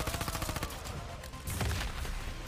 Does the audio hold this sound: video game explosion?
yes